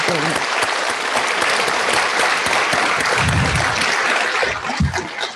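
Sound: round of applause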